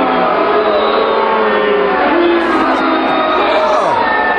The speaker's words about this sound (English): They booed Jesus? You can't boo Jesus. No, you can't do that, especially... Who would boo Jesus? This is a Christian conservative crowd in South Carolina, and they would boo Jesus?